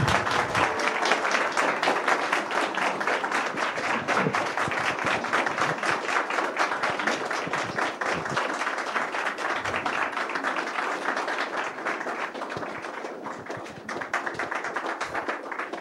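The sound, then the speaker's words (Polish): Sustained audience applause thanking a man for his testimony, a dense wash of many hands clapping steadily and loudly for about sixteen seconds, with no pause or speech over it. “Myślę, że te brawa też pokazują, jak bardzo ważne było dla nas to świadectwo Pana.”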